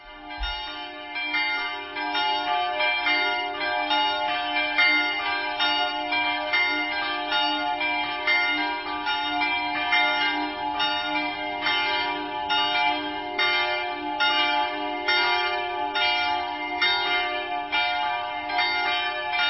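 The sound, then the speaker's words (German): A peal of the three church bells of the Protestant Versöhnungskirche in Ziegelhausen, cast in 1950 at the Schilling bell foundry in Heidelberg, rings continuously, their overlapping strikes forming a steady, dense clangor with long sustained tones, fairly loud and without any voices. “Theresia gehört haben, wollen wir auch nun die der evangelischen Versöhnungskirche hören.”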